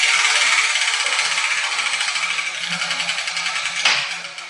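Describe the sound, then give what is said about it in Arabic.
A letter wheel spins with a dense, steady rattling whir as balls tumble inside, slowing slightly, then a sharper clack near the end as the ball for the Arabic letter Meem drops out. No voices. “لقد سقطت كرة حرف الميم من الدولاب يا جدتي.”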